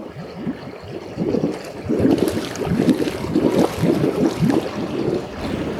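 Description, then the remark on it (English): Thermal spring water bubbles up from the earth in a circular bath, gurgling steadily with a continuous churning, burbling sound, moderately loud, against a faint airy background with no voices. “And in the centre there's this circular bath, and the waters, you can see the waters actually bubbling up as they are when they come out of the earth, before they're treated.”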